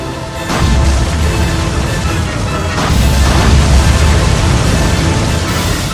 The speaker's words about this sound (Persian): در آغازین ساعات اول شهریور ماه 893 خورشیدی فرمان آتش توسط افسران عثمانی صادر شد. توپ‌ها یکی پس از دیگری به سمت اردوگاه ایران شلیک می‌شدند. گفته میشه 300 توپ جنگی به سمت اردوگاه ایران شلیک شد که چنین آماری حتی در قرن 21 هم به منزله یک جنگ تمام عیاره.